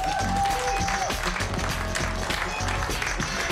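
Sustained audience applause, a dense, steady wash of many hands clapping at once, fairly loud and close, running the whole length without letting up, with a low rhythmic thump beneath it.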